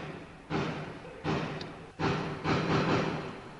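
Celebratory gunfire fired into the air: four sharp, loud bangs at uneven intervals, each trailing off in a long echoing decay, with no voices.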